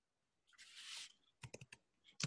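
A soft rushing hiss gives way to a quick run of sharp keyboard clicks as someone types an answer on a computer keyboard, then a short pause and a couple more taps. The typing is faint, with no talking.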